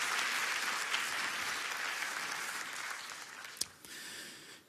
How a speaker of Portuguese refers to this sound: Pode aplaudir. Porque é para Jesus.